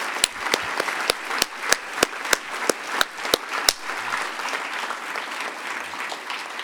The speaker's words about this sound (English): So please give yourselves a round of applause for what you've done.